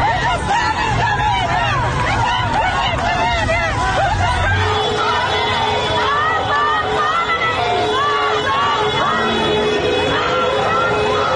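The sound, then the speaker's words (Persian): A large crowd of protesters in Bukan chants slogans against the leader of the Islamic Republic and the forces of repression, a loud, dense mass of overlapping raised voices that carries on steadily for the whole stretch with a low rumble beneath. “معترضان در بوکان علیه رهبر جمهوری اسلامی و عوامل سرکوب شعار دادند.”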